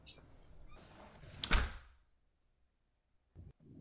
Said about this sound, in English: I'll just close the door behind me so no one thinks you're still available.